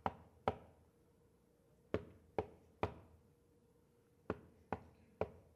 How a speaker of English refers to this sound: Man, will you please leave? Will you please just go away? Will you stop knocking on my door?